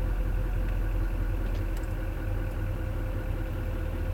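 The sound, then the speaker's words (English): A car engine idles steadily at a stoplight, a constant low, throbbing rumble with a faint mechanical hum and no speech, holding the same level throughout. “We're just at a stoplight.”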